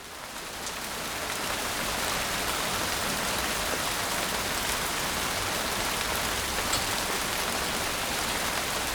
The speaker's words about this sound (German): Je mehr Wassertröpfchen sich in einer Wolke sammeln, desto dunkler und größer wird sie. Irgendwann kann sie das Wasser nicht mehr halten und es fällt in Form von Niederschlag auf die Erde.